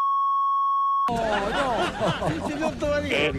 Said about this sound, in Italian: Scusate, insomma, c'era qualche bip qua e là.